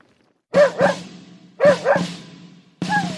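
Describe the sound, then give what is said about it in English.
A Bull Terrier mutt, Stubby, barks in two quick double bursts, woof-woof, pause, woof-woof, then starts a fifth, higher bark at the end. The barks are loud and sharp with a mid-pitched tone. “the Bull Terrier Mutt observed the soldiers of the 102nd Infantry Division as they prepared to go fight in the First World War”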